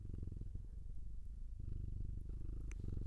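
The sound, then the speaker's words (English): A pet cat named Kimiko purrs steadily in a recording booth, a deep rumbling drone with a soft rhythmic pulse that continues without a break; no one speaks over it. “You gonna purr for everyone?”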